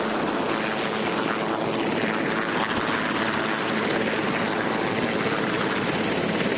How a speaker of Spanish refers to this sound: Así sonaba el helicóptero Marine One que ha llevado a Donald Trump y a la primera dama, ex primera dama Melania, y a varios empleados de su administración hasta la base aérea de Andrews.